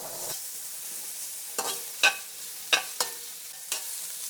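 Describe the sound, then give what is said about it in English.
Chicken and onions frying in a lot of oil in a frying pan, with tomatoes and a chopped jalapeno pepper, in Springfield: a steady high hiss of sizzling with five or six sharp scraping knocks as the pan is stirred. No one speaks. “Add a lot of oil, just enough to fry the onions and the chicken.”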